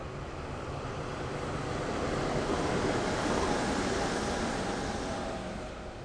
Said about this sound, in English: I'm out on my balcony here this morning of November 24th, 2009. A train is approaching. Perhaps you can hear the train signal off in the distance. And I'm pretty sure that you're going to be able to hear this train.